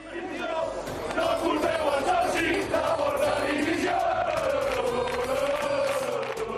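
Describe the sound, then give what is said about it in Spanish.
A large FC Barcelona football crowd chants in unison at club president Laporta, a loud, sustained roar of many voices whose pitch rises and falls together in a repeated, rhythmic chant that runs throughout without a break. “Ayer le gritaban esto a Laporta.”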